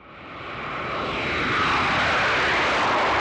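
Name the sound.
airplane flying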